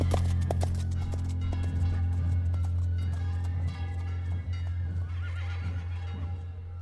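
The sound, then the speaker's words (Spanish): Horse hooves clip-clop in a steady rhythm over a constant low rumble, with no one talking, as riders arrive on horseback at the village of El Rocío. “Con Cristian Guerrero hemos llegado a caballo hasta la aldea del Rocío”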